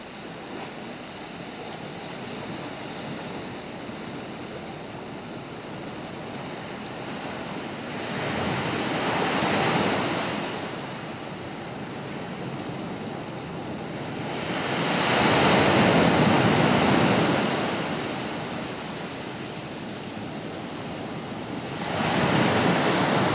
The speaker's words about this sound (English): For that one, and let's just play some ocean music. Hey Siri, play the album ….